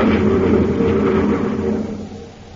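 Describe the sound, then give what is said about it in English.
The engine of a surface car in the Space Patrol radio adventure Race Against Time revs steadily at a loud level as it drives through a mountainous region of Mars, its droning hum holding for a moment before easing off and fading slightly toward the end, with no voices. “Buzz and Happy are in the surface car driving through a mountainous region of Mars”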